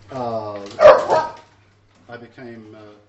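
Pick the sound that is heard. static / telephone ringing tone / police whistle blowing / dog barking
dog barking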